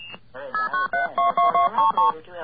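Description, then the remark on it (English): A short high whistle, then a quick run of about eight dual-pitched blue box tones beeping in steady succession on a phone line, with a faint hiss of line noise underneath. “That sounds like a blue box.”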